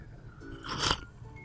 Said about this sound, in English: So people hear me drinking coffee and it's fine. I just heard you slurp. Yeah. Yeah, you can hear me slurp.